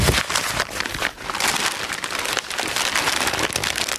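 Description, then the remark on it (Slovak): Newspaper pages rustle and crinkle without pause for a few seconds, a dense, dry crackling with small sharper flips now and then, and no voices. “Takýto zvuk už naše deti možno nebudú poznať.”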